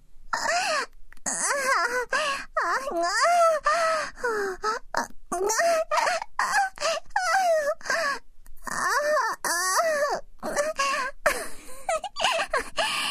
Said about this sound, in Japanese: なんで泣いてるんですか？